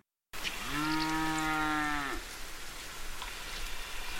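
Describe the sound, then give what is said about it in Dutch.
A single long, low cow moo rises and holds steady for about a second and a half, then trails off, heard on a street late in the evening over a constant hiss of howling wind that continues afterward. “Het was precies of ik het geloei van een koe hoorde.”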